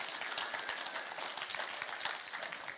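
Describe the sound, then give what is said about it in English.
An audience at a morning church service applauds for all the single parents, a dense wash of many hands clapping at once with a sustained, even crackle throughout and no voices standing out. “Can some parents or somebody give an amen or a round of applause for all the single parents this morning?”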